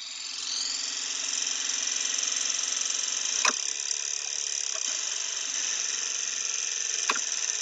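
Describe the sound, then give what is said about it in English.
Car engine fuel injectors tick so rapidly that they merge into a steady, bright mechanical buzz, continuous throughout, with a couple of sharper clicks standing out; the engine is heard without noise from moving parts or combustion. “This is how your car engine would sound without any of the noises from the moving parts or combustion”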